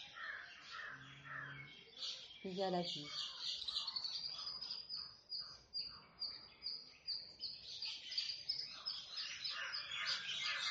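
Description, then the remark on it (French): Outdoor birds call continuously, with crow-like caws and high chirps layered over a steady insect-like buzz, while a voice briefly speaks early on. “Écoutez les bruits extérieurs. Il y a les oiseaux.”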